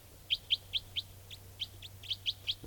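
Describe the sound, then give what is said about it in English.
A wild bird of call type 4, down almost on top of the cages, gives a series of about ten short, high chirps in a steady, quick rhythm, some louder and some softer, over a low constant hum with no talking. “The wild bird is a less forceful of the calls, and I'm trying to point at the wild bird.”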